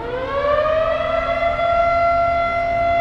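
A loud civil defense siren wails steadily in Kadıköy, Istanbul, at 9:05 a.m. on November 10th as people stand still in a nationwide commemoration, its tone slowly rising and holding, with a faint low rumble of ambient noise underneath and no voices.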